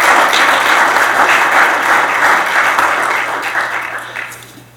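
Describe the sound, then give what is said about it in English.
A crowd applauds loudly for the women in the audience who served in the military, a dense steady patter of many hands clapping that slowly thins and fades toward the end, with no voices over it. “Okay, let's give them all another round of applause for their service.”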